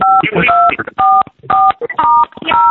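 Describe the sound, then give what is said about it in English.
Touch-tone keypad beeps from a phone as an extension is dialed, about six short dual-tone presses in an uneven rhythm, fairly loud, with muffled background noise between them. “That's not a valid extension. Please try again.”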